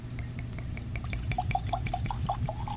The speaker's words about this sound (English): I know, we haven't had a good pour in a long time.